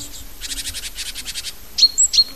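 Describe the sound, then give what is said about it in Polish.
A tit that has just flown in to a nest box calls: a rapid series of high, buzzy chirps, followed by a few sharp, bright tweets. No one speaks. “O, właśnie przyleciała sikora, także zaczynamy.”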